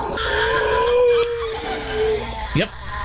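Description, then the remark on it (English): A cat wails at night in a long, drawn-out, wavering yowl that slowly dips in pitch, followed by a brief sharp rising cry near the end, over a low background rumble. “This is sound... that the cat made last night.”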